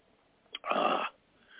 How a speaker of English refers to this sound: I wish I didn't cough so much. I guess I'll have to quit smoking.